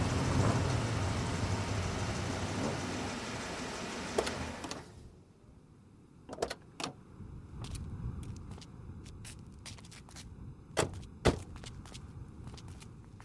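A car engine runs with a steady rumble, then abruptly cuts out as it dies from lack of fuel, followed by a few scattered sputters and clunks in the near-silence.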